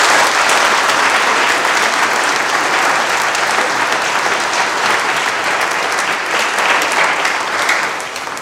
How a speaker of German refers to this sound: Das sind unsere Konfirmanden, die nächste Woche und übernächste Woche konfirmiert werden und sie haben nochmal einen Applaus verdient, denke ich.